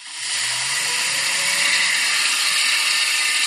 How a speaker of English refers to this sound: And this noisy is a hydroelectric turbine. So this is a machine that makes electricity from the passage of water.